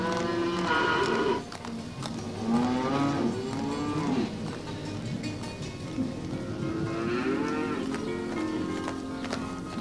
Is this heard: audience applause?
no